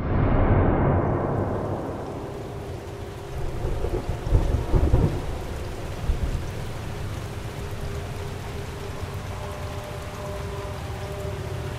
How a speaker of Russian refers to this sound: Мрачное небо было затянуто тучами, из которых лились косые струи дождя.